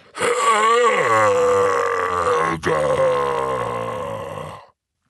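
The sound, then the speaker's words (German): A person voicing the giant Grob, who is confronting centaurs, lets out a long, loud, guttural roar, deep and rumbling with a brief break midway, sustained for about four seconds before cutting off abruptly into silence. “Er bückte sich ein wenig, die Arme der Zentauren an ihren Bogen spannten sich, dann brüllte er.”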